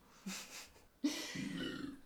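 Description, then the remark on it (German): A short throaty burp, then after a brief pause a louder, longer burp that rumbles on for about a second with a low, gravelly tone. “Das war ein echter Rülpser.”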